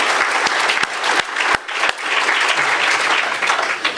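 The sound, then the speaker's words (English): A crowd in Cohoes claps steadily in a sustained round of applause for city employees, loud and dense with sharp individual claps scattered throughout, filling the whole stretch without any talking. “Let's give all these city employees a round of applause for everything that they do for our city on a daily basis.”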